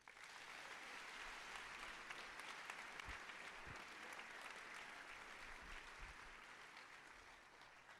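An audience applauds at the close of a Portuguese-language church sermon, a dense wash of many hands clapping at an even loudness for several seconds, with a few low thumps underneath and no voices standing out.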